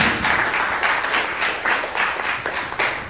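An audience applauds steadily to welcome a speaker at a presentation on building applications, a dense wash of many hands clapping at once with a bright, crackling texture and a fairly constant loudness throughout.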